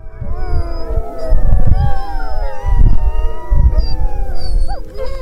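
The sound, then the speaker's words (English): A pack of sled dogs on an April 2007 Woods Hole Oceanographic Institution expedition on the Arctic ice cap howls together, many long, wavering voices overlapping in a continuous chorus, with gusty low rumbling noise underneath. “Here's a sled dogs on an expedition in April 2007, Woods Hole Oceanographic Institution.”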